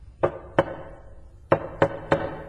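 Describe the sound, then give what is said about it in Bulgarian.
Five sharp knocks on a door as a signal to be let in, in a deliberate pattern: two knocks, a short pause, then three more in quick succession, fairly loud with a bit of resonance. “Едни почуквания, отвръща ви той.”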